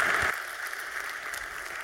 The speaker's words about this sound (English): Please give a warm round of applause to Andrea Barisani. Thank you.